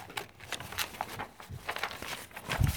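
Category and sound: sound effect, stomping footsteps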